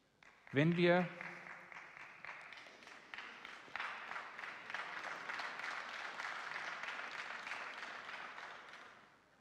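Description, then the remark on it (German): An audience at a Christian gathering breaks into sustained applause for a statement about unity among all denominations, after a brief voiced exclamation at the start; steady, dense clapping continues at even loudness for several seconds before fading slightly at the end. “Wir haben gerade dafür geklatscht, ich wiederhole den Satz nochmal, nur dass das nicht untergeht fürs Protokoll.”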